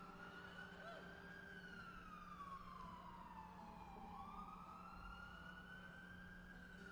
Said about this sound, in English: One of the things that was amusing about it was that there were sirens during the recording. I'll just wait a second.